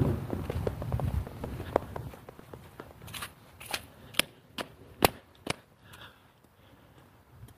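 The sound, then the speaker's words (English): Footsteps crunching through snow on a cold, sunny day with scattered clouds: a quick run of soft, gritty crunches, then a handful of sharper, spaced-out snaps and cracks that taper into quiet. No one speaks. “I don't know if you can hear it crunching under my feet or not.”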